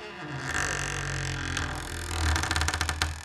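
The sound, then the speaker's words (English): A long, drawn-out creaking door sound effect, groaning low and steady before breaking into rapid stuttering creaks toward the end, fairly loud with no voices over it. “This next creaky door story is out of the study of Halloween studies.”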